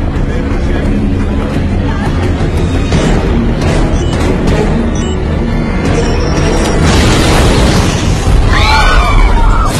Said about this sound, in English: Ladies and gentlemen, please calm down. There's been an explosion outside, but that's all we know so far.